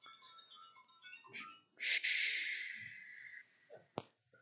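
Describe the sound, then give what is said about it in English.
A mobile phone rings with a bright electronic melody of quick tonal notes, then a sustained buzzing tone, ending in a sharp click. It is fairly loud, with no talking. “Why didn't I turn off my phone?”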